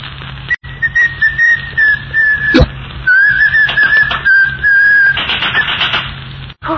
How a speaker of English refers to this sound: No whistling in the hospital.